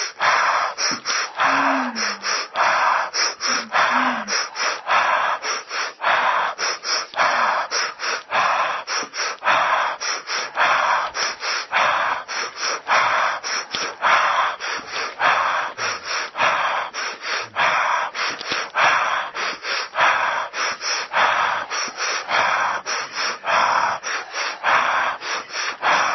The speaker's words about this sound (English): There's 1,000 breathing games you can play. Whatever it takes to keep breathing. Do a Sufi technique.